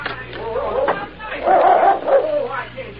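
A dog barks and whimpers in a string of short, whiny yelps, moderately loud, with a brief pause midway before a few more plaintive cries.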